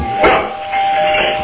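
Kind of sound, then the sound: household object, doorbell ringing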